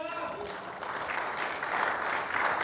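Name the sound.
audience clapping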